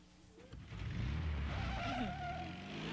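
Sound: car driving off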